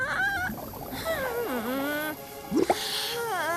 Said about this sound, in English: The Barbies struggle to make bubbles. Malibu moves her hands awkwardly. Small bubbles pop.